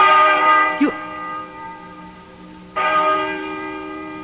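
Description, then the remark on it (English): A large church bell tolls twice, slowly, each deep resonant strike ringing out and lingering with a long humming decay before the next stroke. “Listen to that bell.”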